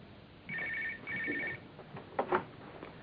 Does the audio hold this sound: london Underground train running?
no